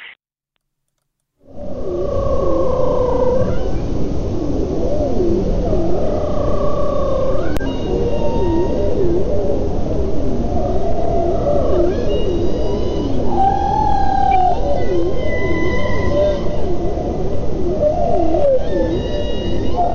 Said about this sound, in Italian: E qui siamo proprio nell'Artico ed dovrebbe essere una balena a parlarci.